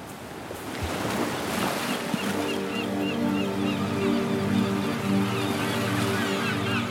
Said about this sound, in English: But the ocean is untamable. The ocean is just the ocean. There's no taming the ocean.